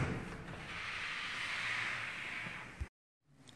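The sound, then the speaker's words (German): The door of a room swings open with a long, steady airy scraping sound lasting a few seconds, ending in a soft thud, followed by a brief silence and faint noise. “Und so öffnet er die Tür eines Zimmers.”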